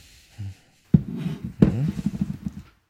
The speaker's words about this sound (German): Wolltest du nicht einen Wein? Ich habe hier einen guten Wein da. Okay. Hier, ich gieße dir mal was ein, warte.